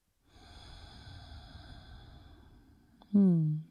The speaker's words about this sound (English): So just breathing in and out through the nose, hand to your heart center, feeling into this moment.